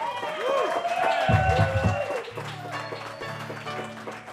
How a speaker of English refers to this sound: Thank you again, Joyces. How about another round of applause for the Joyce Boys?